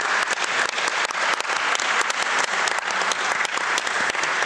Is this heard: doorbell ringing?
no